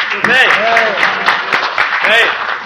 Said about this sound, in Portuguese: Palmas para ele!